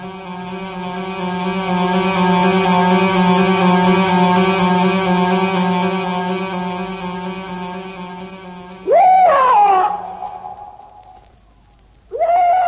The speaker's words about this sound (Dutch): Wat is dat voor een geluid? Welk geluid? Nou, de uilen gekrijs.